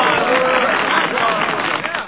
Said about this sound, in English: There we go. Had to get the applause in there.